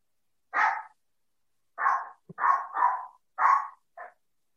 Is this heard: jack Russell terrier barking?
yes